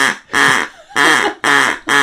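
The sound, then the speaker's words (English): A person loudly imitates bird calls in the style of Exotica music, giving about five harsh, nasal squawks in a steady rhythm with short pauses between them. “Do the bird sounds.”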